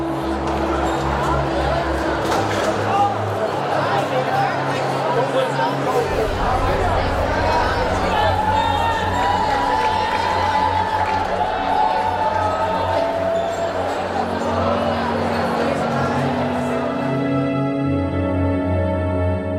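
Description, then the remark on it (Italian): A dense crowd murmurs and chatters continuously, with scattered shouts and bursts of cheering rising over the steady hubbub, as it moves through the narrow streets of Cefalù toward the square where an execution is to take place. “La folla che si muoveva tra le strette vie di Cefalù in quella direzione confermava che era in corso un evento straordinario.”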